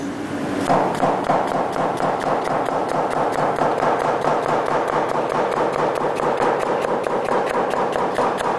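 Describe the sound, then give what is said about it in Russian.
A knife chops peeled, destringed celery for a salad on a cutting board in a fast, steady rhythm of crisp taps that continues evenly throughout, with no one speaking. “И теперь нарезаем сельдерей.”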